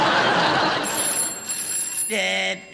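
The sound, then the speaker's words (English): A telephone rings in short, shrill electronic bursts, ending with a brief buzzy tone, all over a steady rushing background noise. “Friend, the phone's ringing.”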